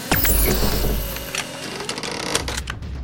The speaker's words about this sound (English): I'd like to see your chainsaw stop this!